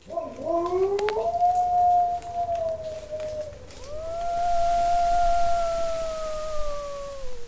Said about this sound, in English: We collected several thousand howls from wolf populations around the world, mostly captive animals from zoos, but also some animals in the wild. We collected recordings of different subspecies of gray wolves.